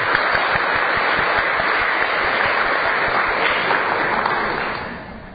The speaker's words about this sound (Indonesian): Nah, ini semua tepuk tangan buat saya.